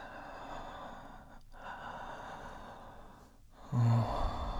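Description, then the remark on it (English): Slow, breathy exhales close to the microphone, a soft continuous hiss broken by two brief pauses, with a short low-pitched vocal murmur near the end. No one speaks. “oh, when I breathe against it.”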